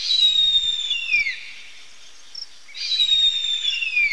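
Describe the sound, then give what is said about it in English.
Two loud, high, drawn-out whistled eagle calls, each descending at the end, separated by a short pause, clear with no talking. “However, human persecution and ongoing cutting of forest are threatening these eagles, who raise just one nestling every 2 or 3 years.”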